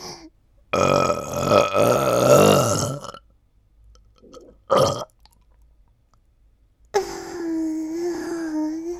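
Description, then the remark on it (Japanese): A long, loud, gurgling burp rumbles for over two seconds, followed by a shorter burst, then a stretch of sustained voiced sound like a second drawn-out belch or groan. “すさまじいゲップが出ました。”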